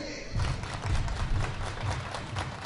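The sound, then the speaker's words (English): A baseball crowd on a Sunday afternoon cheers and claps in the ninth inning, with the Marauders leading Fort Myers 4-2 and one out to go, in a steady, dense wash of noise, with low thumping bursts rising and falling throughout. No one speaks over it. “Crowd getting into it.”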